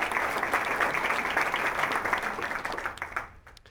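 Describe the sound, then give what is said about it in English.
A symposium audience applauds representatives of the Friends of the Pikes Peak Library District and the Pikes Peak Library District Foundation, with steady, dense clapping that holds for a few seconds, then thins out and fades as individual claps trail off at the end. “I know representatives of them are here, so we'll give them a round of applause as well.”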